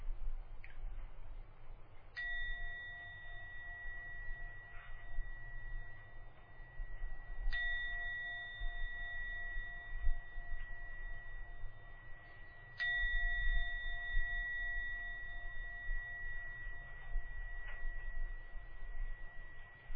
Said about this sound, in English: Now go to ring the gong three times. At the end of the third ringing of the gong, come out from your meditation.